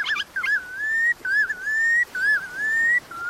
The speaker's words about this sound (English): The red knot is a chunky shorebird no bigger than a robin with one of the longest migrations in the animal kingdom. Every year, some of these birds travel around 9,000 miles from the Arctic tundra to Tierra del Fuego in South America.